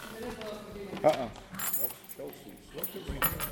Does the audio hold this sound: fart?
no